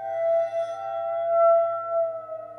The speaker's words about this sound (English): I mean, in the Matrix, the sound of the water phone, that unique instrument that's bowed metal sound that gives you all those eerie high pitched tones.